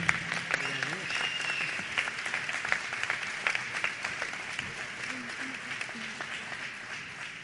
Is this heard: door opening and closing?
no